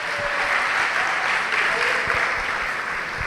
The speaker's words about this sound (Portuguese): Vamos aplaudir o Senhor e fique de pé no seu lugar.